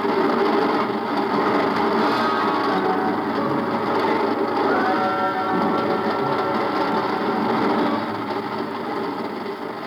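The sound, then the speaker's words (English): A steady, loud mechanical roar with dense rattling and clattering that holds constant for about ten seconds, like a train thundering past beneath a bridge. No one speaks. “I reach up and jerk it loose just as the train thunders under the bridge.”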